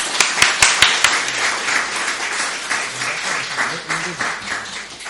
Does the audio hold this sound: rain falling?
no